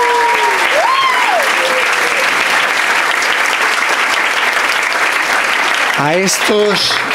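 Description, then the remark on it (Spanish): An audience applauds the consecrated sisters loudly and steadily for about seven seconds, a dense wash of clapping. A few whistles or cheering voices rise briefly above it at the start and near the end. “Fijaos, estamos viendo a las hermanas consagradas, a personas que están consagradas, un aplauso para ellas, claro que sí.”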